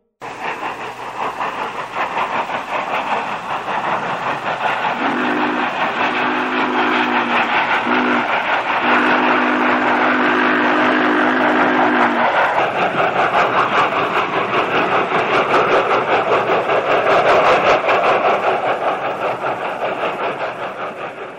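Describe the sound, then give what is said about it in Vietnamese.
A slowly rolling train rumbles steadily with a broad, rattling roar, and a few long low horn blasts sound partway through, the noise holding loud and even throughout. “Anh ta chạy theo đoàn tàu đang lăn bánh chậm chậm, tay đập cửa liên hồi.”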